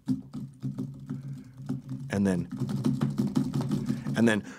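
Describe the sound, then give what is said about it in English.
Rapid, dense clicking of fast typing on a computer keyboard while emailing runs for about two seconds, then a voice joins with a sustained, wavering hum while the quick tapping continues underneath, moderately loud. “And then my fingers were typing on the keyboard so fast that it was a frequency, like an A flat.”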